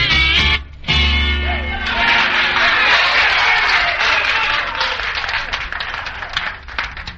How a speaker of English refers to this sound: Thank you very much. You fellas are applauding good today. It's nice to have a band that works for you. It has to applaud.